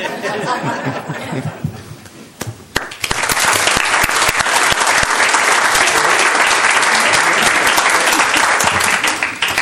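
At a council meeting, a crowd bursts into loud, sustained applause after a few seconds of scattered chuckling and murmuring, the dense clapping continuing steadily to the end.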